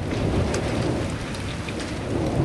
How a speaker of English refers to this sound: And then last month, like an answer to a prayer, the monsoons arrived. The National Weather Service's description, abundant moisture, slow-moving storms, is music to the ears of New Mexicans, as is the late afternoon thunder.